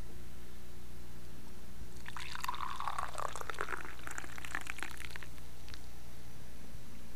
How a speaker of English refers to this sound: First let me pour it. So you know what coffee sounds like, but I'm still going to pour it anyways. You know, bear with me.